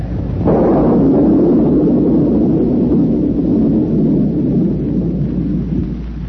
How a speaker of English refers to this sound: I'm alone tonight. Alone in the wind and storm.